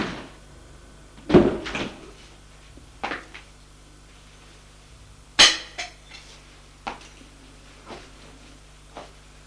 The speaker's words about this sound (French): Après s'être servi, va reposer la bouteille au réfrigérateur.